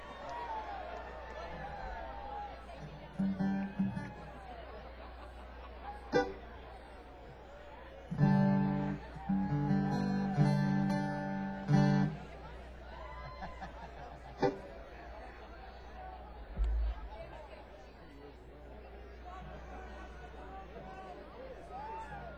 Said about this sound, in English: you got a big crowd out here. Do you see that? They go all the way back to the end.